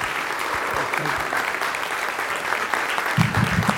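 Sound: audience standing and clapping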